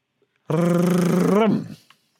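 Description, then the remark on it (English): A voice imitates a drum roll with a steady, buzzing rolled-tongue growl held for about a second, wavering slightly in pitch before it cuts off. “Drum roll, please.”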